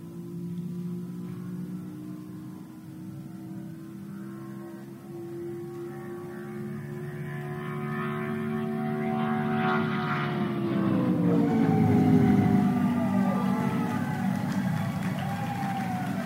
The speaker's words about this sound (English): he represented all blind people as he clocked an average of 211.043 miles an hour driving his car with no sighted assistance.